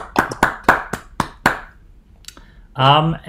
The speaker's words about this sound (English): Well, so feel free to applaud either by unmuting or via Zoom button pushing.